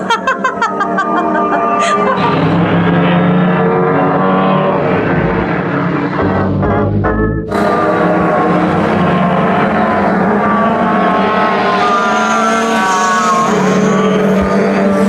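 Racing cars on lap 20 roar past the grandstand, engines whining with rising and falling pitch, loud and continuous, with a sharp burst of noise midway as one speeds by.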